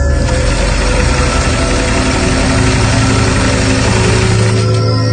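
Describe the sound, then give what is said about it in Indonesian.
A sewing machine runs continuously, a loud, steady mechanical whir with a low vibrating hum and a busy rattling texture, close by and unbroken for the whole stretch, with no voices. “Kok ada suara mesin jahit?”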